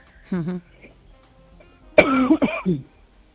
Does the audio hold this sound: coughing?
yes